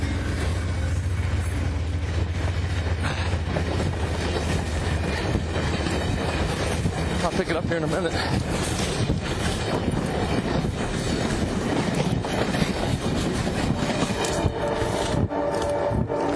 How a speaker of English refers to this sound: All right, we got a train coming by.